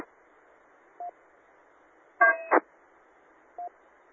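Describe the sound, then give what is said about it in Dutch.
Short electronic beeps over steady radio hiss: a single brief tone, then a louder warbling burst ending in a click, then another lone beep, like a transmitter's end-of-transmission tone, from a station checking into the Hunnebedronde amateur radio net. “Ja, er was iemand met piep.”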